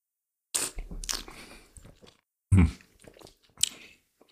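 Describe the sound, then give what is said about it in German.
Wet mouth noises: a few loud smacks and slurps in short bursts, with pauses between, as someone swishes and tastes wine to get air to the palate. No talking. “Freuen sich die Hörer eigentlich über diese ständige Schmatzerei?”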